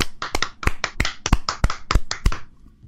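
A quick, steady burst of hand clapping: around fifteen sharp, bright claps in under three seconds, alternating louder and softer in an even rhythm, with no talking, then stopping abruptly.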